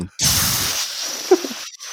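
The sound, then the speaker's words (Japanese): A voice imitates 200-kilogram weights, worn like Rock Lee's wristbands, being taken off and dropped onto the sand of an arena, kicking up dust: a low thump opening into a long, breathy, hissing rush that lingers over a second, with a short voiced blip near the end. “砂の上に落ちた音するわ。”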